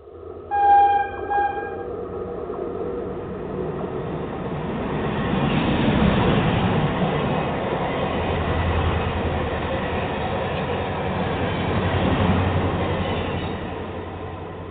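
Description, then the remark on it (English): A short, loud train horn blast sounds at the start, followed by the steady, heavy rumble and clatter of a train rolling past, swelling slightly midway and continuing to the end. “Watch out for the Trump train.”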